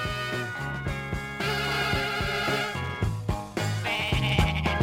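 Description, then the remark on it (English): A human voice mimics a goat's wavering bleat, sung loud and upfront over a funky band with a steady, punchy beat and bass, with the bleats recurring through the groove. “Did they bring a goat into the studio for this one? Or is that a human being?”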